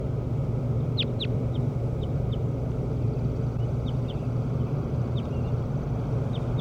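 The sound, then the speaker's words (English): A bird, numbered 17 and being recorded, calls in response: two sharp, high chirps, then a series of shorter, fainter chirps spaced irregularly, all over a steady low rumbling background noise. “Start recording bird 17 again.”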